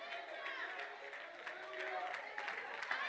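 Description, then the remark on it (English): A church audience claps hands steadily for God during a sermon, a dense reverberant wash of applause mixed with voices and murmuring throughout, fairly loud and continuous. “Won't you give God a hand clap?”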